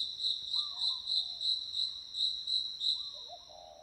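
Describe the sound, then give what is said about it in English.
Crickets chirp in a steady, rapid pulsing rhythm, clear against a quiet night in the wild, heard while waiting in a car, with a couple of faint warbling calls underneath and no voices. “It is so silent you can hear each cricket knot.”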